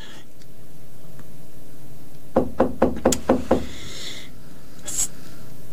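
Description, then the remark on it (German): Six quick, evenly spaced knocks on a locked door, sharp, rapping out in a short burst over a quiet room hum, followed by a faint thud. “Ja, treten Sie ein. Ja, nun kommen Sie doch.”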